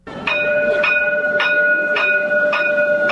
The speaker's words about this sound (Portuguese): Atenção, Rio de Janeiro, o trem do VLT está chegando. O veículo leve sobre trilhos deve entrar em funcionamento em abril.